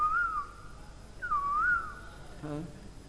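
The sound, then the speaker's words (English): Two clear whistled phrases, each rising and falling, imitate a cuckoo's call. They are moderately loud, followed by a short voiced sound. “Suddenly he also saw beautiful lakes and gardens and lotus flowers and all types of chakravarta birds and swans and cuckoos calling.”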